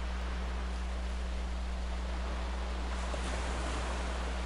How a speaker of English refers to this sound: Hear the rhythmic ebb and flow of the waves as they caress the shoreline.